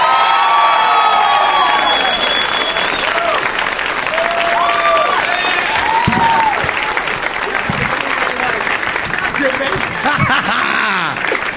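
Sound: audience applause and cheering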